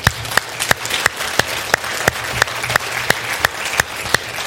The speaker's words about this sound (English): Let's give them a clap at being honest.